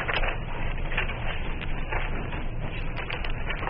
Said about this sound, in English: Sorry to bury you all with paper.